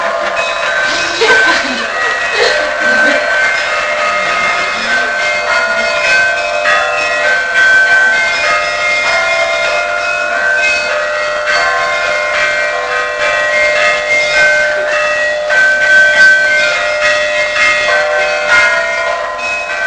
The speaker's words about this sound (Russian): Вы впервые увидите, как можно под колокол танцевать. Вот. Оказывается, это действительно может быть очень так зажигательно.